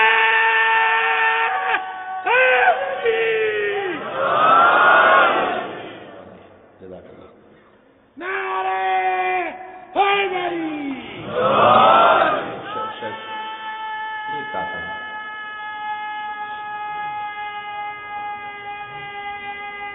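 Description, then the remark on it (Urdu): A crowd at a religious gathering (majlis) chants slogans in call-and-response: a single amplified voice from the audience draws out a long line, then the whole gathering roars back. The exchange repeats twice, loud and reverberant, before the lead voice holds out again. “آپ متفرق تو نعرے لگاتے رہتے ہیں، آپ میں سے کوئی ایک دو چار مل کے لگائیں اور پھر سارا مجمع جواب دے دیں، میں مجلس مسائل پہ چلا جاتا ہوں.”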